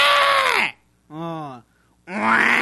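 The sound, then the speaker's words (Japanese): A person imitates a happy water buffalo with three loud, drawn-out lowing calls, each harmonic-rich and wavering, separated by short silences. The middle call is shorter and slightly quieter. “これは喜んでるの、この 水牛。”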